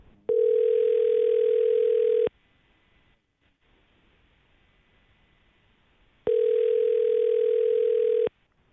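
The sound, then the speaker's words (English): An outgoing phone call rings back twice: a steady, fairly loud electronic tone lasting about two seconds, a four-second pause of faint line hiss, then the same tone again. No one speaks. “All right, let's give her a call and see if we can get some answers for you.”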